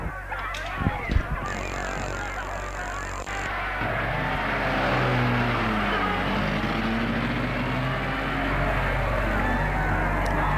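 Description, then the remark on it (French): A couple of clunks, then a car engine turns over and settles into a steady, rumbling drive, its pitch rising and falling as it revs, with constant road noise throughout. “Il met la voiture en route.”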